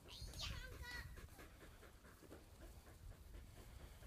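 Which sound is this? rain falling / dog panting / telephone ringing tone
dog panting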